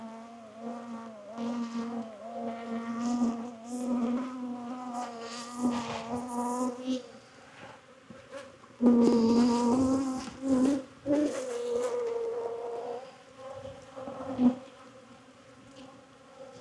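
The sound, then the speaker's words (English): A steady drone of many honeybees buzzing during a hive frame inspection, the pitch wavering and swelling in loudness at times as the swarm stirs, with faint handling sounds underneath and no talking. “More brood, drones.”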